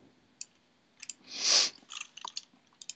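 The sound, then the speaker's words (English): Scattered, irregular clicks of computer keyboard keys being typed, fairly quiet, with one louder, longer rustling burst midway and no voices; typing while creating a ping check in software. “Oops, wrong keys here.”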